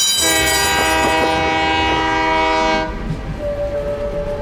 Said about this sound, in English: Liu Wei has lived with the train since he was a child, and the sound of the train whistle is like a lullaby at night.